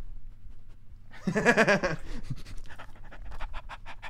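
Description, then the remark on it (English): A female dog pants in quick, steady breaths after a brief whining vocal sound, the rhythmic huffing continuing to the end over a low background rumble. “People can see her. Good dog. They can hear her, too.”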